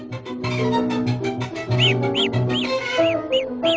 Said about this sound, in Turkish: Kuşların şarkıları da gelişi güzel çıkarılan sesler değildir. Söyledikleri şarkılar belli bir anlam taşıyan, bir amaca yönelik söylenen melodilerdir ve olağanüstü çeşitliliğe sahiptir.